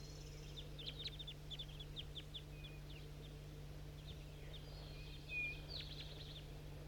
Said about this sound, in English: Calls a 4-3 and I think some wild birds too.